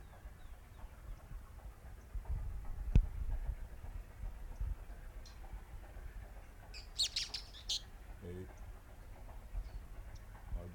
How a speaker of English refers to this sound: Three birds.